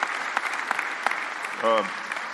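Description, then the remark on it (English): A crowd applauds steadily in appreciation of a guest at an evening event, a dense wash of many hands clapping with a few sharper claps standing out, while a brief voice cuts through near the end. “Can we show our appreciation?”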